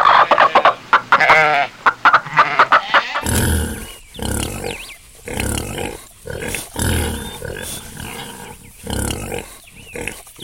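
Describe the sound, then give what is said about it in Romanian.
A flock of chickens being fed clucks busily, with repeated squawks and chattering calls that continue in uneven bursts, no one speaking. “vedeți cu câtă atenție își hrănește păsările, animalele și familia.”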